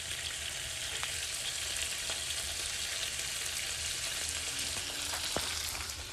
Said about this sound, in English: Now we want to make sure we're letting our meat cook, but we've got to make sure we're still stirring it up so we don't get anything burned onto the bottom of the pan.